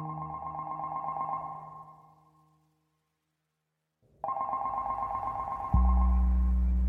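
A telephone at an embassy in Washington, D.C. rings in a steady warbling burst, stops for a couple of seconds of silence, then rings again loudly as a low droning tone swells in underneath.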